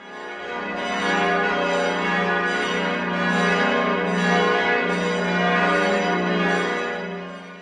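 The Pummerin, a large cathedral bell, tolls loudly and steadily, its deep booming tone sustained throughout, with rich humming overtones that swell and pulse as the strokes overlap. No voices are heard.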